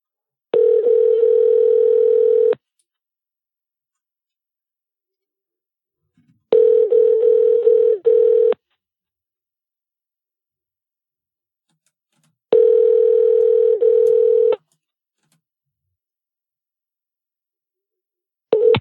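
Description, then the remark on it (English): Ringback tone of an outgoing phone call: a steady electronic purr repeating in two-second bursts separated by four-second silences, three full rings and a fourth just starting, with no talking. “Can you hear that ringing”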